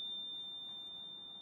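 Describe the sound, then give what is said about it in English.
An oven timer, being set for a pan of brownies in the preheated oven, gives off a single sustained, high-pitched electronic tone that holds steady for over a second, fairly quiet against a faint low hum, with no talking. “And then we just set the timer.”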